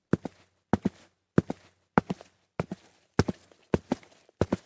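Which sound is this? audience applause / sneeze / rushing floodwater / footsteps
footsteps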